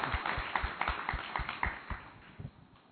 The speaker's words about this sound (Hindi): तो इतना आनंद आता है कि मन तालियां बजाने लगता है। आप भी ताली बजा के अभिनंदन करिए।